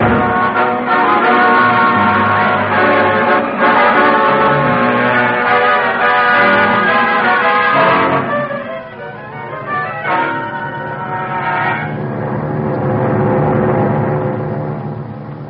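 Loud, continuous bell ringing with overlapping tones that swell and linger, filling the whole stretch without pause and no voices over it.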